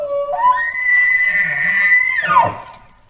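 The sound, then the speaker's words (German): A moose rutting call: one long, loud, nasal moan that rises in pitch, holds a strained high tone for nearly two seconds, then drops away abruptly. No other sounds accompany it. “Der Brunftruf, der wird auch Horn oder Bellen genannt.”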